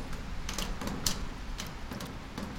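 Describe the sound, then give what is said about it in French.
Rain falls on a shed roof: a soft, steady patter broken by irregular sharper taps and drips, fairly quiet and continuous, with no voices. “L'auteur de l'émission écoute la pluie tomber sur le hangar.”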